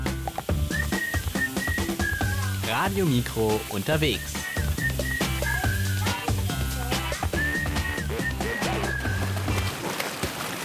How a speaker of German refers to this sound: Ihr hört schon, Radio Mikro heute unterwegs im Schwimmbad.